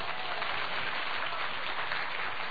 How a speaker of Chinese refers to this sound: 俾啲掌声我哋嘅神啊！